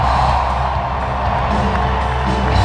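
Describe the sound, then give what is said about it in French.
A large arena crowd at the AT&T Center cheers loudly and continuously for Tony Parker as the Spurs retire his number 9, a dense roar of voices with scattered whoops and some clapping, sustained at a steady high level throughout. “Ambiance de feu pour Tipeee au AT&T Center.”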